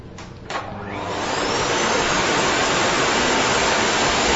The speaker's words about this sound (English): And this everybody got right, because you're right. You were waiting to hear the sound of a vacuum cleaner. A lot of sounds sound like a vacuum cleaner, but the vacuum cleaner has a very distinctive sound